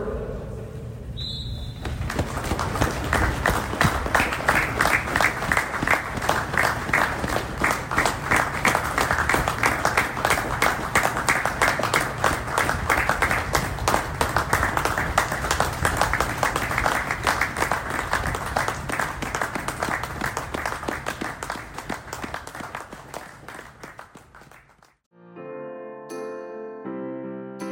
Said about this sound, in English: please join us for a minute's applause from the members of Tony's service to both of today's clubs and football as a whole